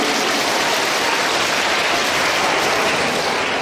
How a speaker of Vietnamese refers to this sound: Xin cho một tràng pháo tay thật lớn.